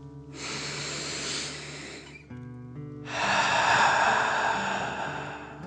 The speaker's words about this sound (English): Before we begin our story, let's relax with three deep dragon breaths. Breathe in through your nose, filling up your belly, and then out through your mouth, pretending you are breathing fire. Ready? Deep breath in and out.